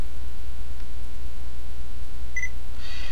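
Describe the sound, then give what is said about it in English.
A short, bright electronic beep from a voice recorder as its menu set button, the second one down from the top, is held, sounding once near the end, followed by a brief chirpier tone, over a steady low background hum with no talking. “I'm going to press the menu set button, which is from the top. It's the second one down. I'm going to hold it until it beeps.”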